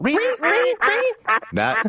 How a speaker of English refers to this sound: That sounds like a duck. That's such a duck. It's the only thing I have in the soundbar that we don't normally use.